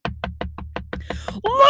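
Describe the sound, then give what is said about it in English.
Rapid, steady pounding on a house door, about nine heavy thumps in quick rhythm, then a loud rising growl or roar of a wolf swells up over the last blows. “Pretty soon, they heard the pounding on the door and the roar of the wolf.”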